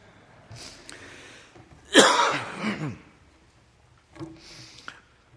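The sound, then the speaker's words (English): A string of coughs, with softer rasping bursts before and after one loud, harsh cough in the middle, separated by brief pauses with no speech. “Well, you've done well enduring my coughing here.”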